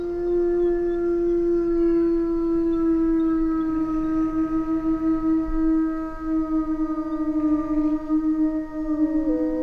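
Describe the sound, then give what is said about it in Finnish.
A long, steady wolf howl, from one of two wolves in a remote, desolate wilderness, holds one clear, drawn-out note for nearly ten seconds, dipping slightly in pitch at the end, with faint rustling background and no voices. “Sitten ne 2 sutta siitä karhujen alta juoksee.”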